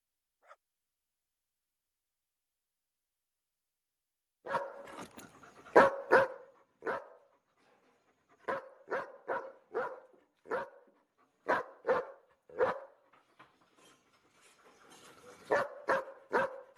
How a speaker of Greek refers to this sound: Αυτά ήταν τα σκυλάκια.